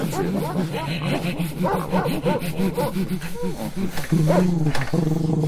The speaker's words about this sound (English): Well, I can't understand a word those dogs are saying over there. I think they're doing their own radio show,